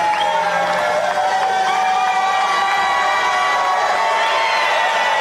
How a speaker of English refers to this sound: So that was the crowd cheering.